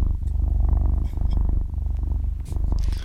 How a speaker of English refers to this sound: Do you mind if we put on Cats Purring instead?